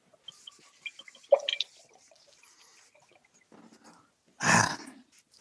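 A wine bottle being uncorked: scattered small clicks and squeaky twists of the corkscrew, then a pause before a short, loud breathy pop as the cork comes free. No one speaks.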